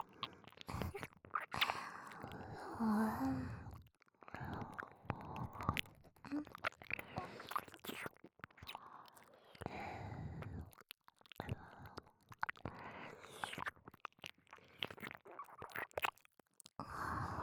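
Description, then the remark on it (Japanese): Wet, smacking licking sounds come in dense, irregular bursts with brief pauses between them, soft and moist with occasional clicks and faint breaths mixed in. “こういう舐め方、結構感じません？”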